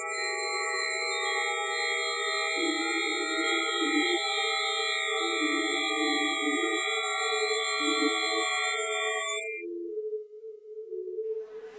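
Electronic music built from pure sine tones: several steady, stacked pitches hold a sustained chord while lower tones shift and pulse beneath, then the chord cuts off, leaving a faint wavering low tone.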